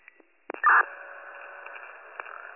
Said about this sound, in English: Just hit my station tones one more time for anybody else to the scene, please.